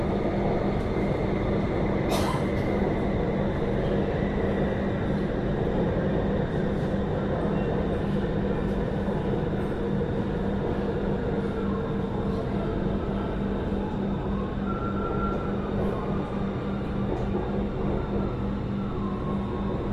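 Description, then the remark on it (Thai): Steady, loud rumble of a metro train in motion toward Hua Lamphong station, heard from inside the car, with a constant low roar, faint mechanical hum and a brief rattle early on; no one speaks. “Attention please This train will terminate service at the next station Please leave the train and contact station staff for assistance We apologize for the inconvenience and thank you for your patience”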